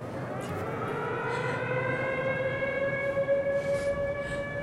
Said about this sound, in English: Hearing sirens, he looks like he has given up.